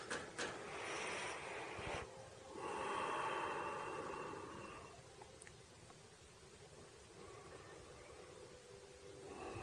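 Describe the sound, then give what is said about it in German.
A long, deep breath drawn in and then slowly let out, airy, during a guided meditation, followed by a quieter stretch of soft breathing. No one speaks. “Dann atmen wir nochmal lange ein und lange aus.”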